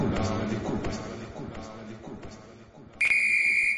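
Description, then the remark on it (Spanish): A football referee's whistle gives one long, shrill, steady final blast near the end, cutting in loudly after several seconds of voices. “Es el pitazo final.”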